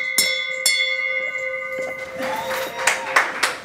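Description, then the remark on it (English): A handbell in the lobby of a nonprofit in Portland, Oregon, is struck twice in quick succession to mark someone finding permanent employment, its bright metallic ring lingering, followed by a lively burst of clapping and excited voices. “The bell is in the lobby of a nonprofit called Central City Concern in Portland.”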